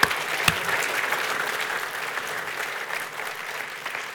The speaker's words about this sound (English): But what they've been doing this morning, it takes a lot of guts to get up in front of a whole group of people and pray or read the Bible or even put on a sausage sizzle. So I think it'd be worthwhile giving them a round of applause today.